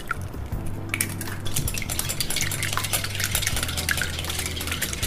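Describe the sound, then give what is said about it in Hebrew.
Rapid, steady whisking of a broken, beaten egg in a bowl while making fish and chips batter, with continuous clinking scrapes of a utensil against the sides and a low hum in the background, fairly loud. “לוקחים ביצה, שוברים ומערבבים בקערה.”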